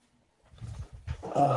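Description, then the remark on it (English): A low, throaty cooing call like a sea pigeon, made by a voice imitating the bird, rising in a few rolling bursts and ending louder and harsher. “looks just like a seagull, but you can probably tell it has a different accent. It's a sea pigeon.”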